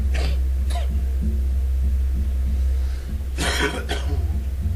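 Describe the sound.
A voice imitates a harsh, phlegmy smoker's cough, with two quick bursts, a pause, then another rough pair of coughs over a low steady hum.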